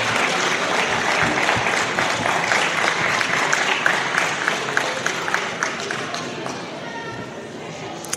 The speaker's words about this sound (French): On peut les applaudir encore. Ils le méritent largement. Bravo à eux.